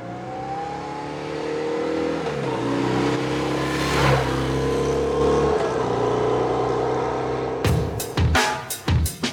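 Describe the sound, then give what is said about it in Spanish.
A motorcycle engine drones loudly as it approaches and passes by, its whining pitch dropping noticeably as it moves away, showing the Doppler effect, followed by a few abrupt, sharp bursts of noise at the end. “Cuando una moto se nos acerca, oímos el tono de su motor más agudo que cuando pasa de largo y se aleja.”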